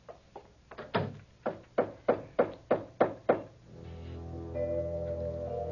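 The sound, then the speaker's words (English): About nine sharp knocks on a door, quickening into a steady, insistent rhythm, loud. They stop, and a sustained, droning tone takes over. “Who would that be? There's a dressing room behind the door.”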